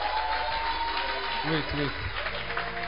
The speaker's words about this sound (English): Wait. Don't rush. You are not clapping well.